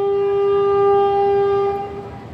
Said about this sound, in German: 9 Stunden dauert die Fahrt mit dem Zug vom Westen in den Osten des Landes durch die idyllische Insel, die in Form einer Träne im Indischen Ozean liegt. Am Zugfenster rauscht die Landschaft in verschiedenen Grüntönen vorbei.